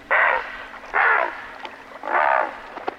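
A great blue heron gives three harsh, raspy squawks of its territorial call, used to challenge and scare away intruders, including other great blue herons, each lasting under half a second, spaced unevenly with brief pauses between them, over a faint background hum.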